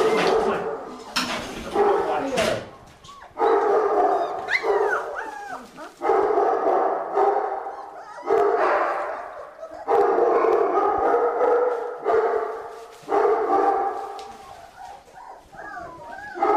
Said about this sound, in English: Those are some cute puppies. So their eyes are a little blue when they're just little pups.